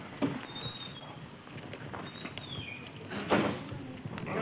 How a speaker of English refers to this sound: Okay, I'm going to go upstairs. Yeah. Pull my chair out here and...